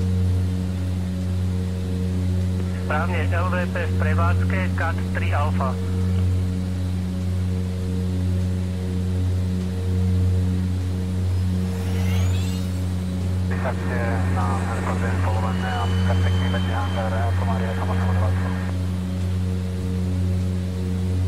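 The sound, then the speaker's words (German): A loud, steady airplane engine drone hums continuously from start to finish as the plane makes its landing approach to Bratislava, about 9.8 km out, with two brief stretches of voices talking over it and a faint rushing sweep midway. “Ich finde, das Flugzeug klingt wie so ein Riesenrasenmäher.”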